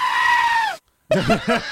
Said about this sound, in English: Turned out, Mike, it wasn't a person screaming, it was a goat. But I want you to hear this goat. I love me the goats. Because if you heard this, you might think there was a person screaming in the field.